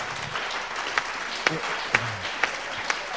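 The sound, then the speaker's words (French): An audience applauds the Lord together, a dense wash of clapping with sharper claps rising at a steady rhythm roughly twice a second, fairly loud. “Allez, je crois qu'on peut applaudir le Seigneur.”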